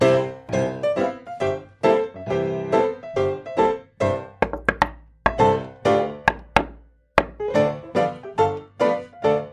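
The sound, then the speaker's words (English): A solo of wooden percussion in a song: quick, rhythmic knocks and taps in a lively pattern, fairly loud, with a few sharper isolated strikes midway. No voices. “Percussion solo”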